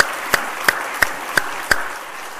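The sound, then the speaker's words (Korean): A church audience applauds, giving glory to God for guiding and protecting them through the year: a steady wash of clapping, with five sharp, evenly spaced claps standing out above it in a regular rhythm. No one speaks. “돌이켜보면은 참 많은 일들이 있었고 어려운 일들도 있었지만은 올 1년 한 해를 인도하시고 지켜주신 하나님께 우리 영광의 박수를 한번 올리겠습니다.”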